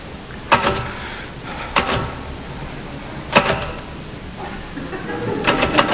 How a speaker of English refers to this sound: Might help if you took the gloves off. My hands are cold. Anyway, what's wrong with typing in gloves?